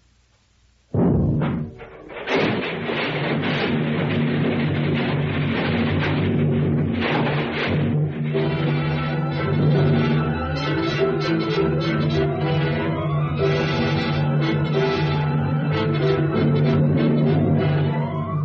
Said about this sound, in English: The center of the Times building blows up. The force of the explosion snaps the girders supporting the second and third floors as so many toothpicks.